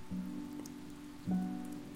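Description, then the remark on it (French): Steady rain patters on a hard surface, a continuous hiss with a low droning hum beneath it. The sound swells slightly near the end, and no one speaks. “Il pleut. C'est merveilleux.”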